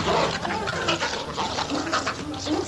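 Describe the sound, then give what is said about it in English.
Rat-like hounds resembling greyhounds make an odd, continuous snorting, grunting noise, almost pig-like and wet-sounding, lasting a few seconds with no pauses and no talking. “They make this weird sound. So I captured a bit of the sound the dogs make.”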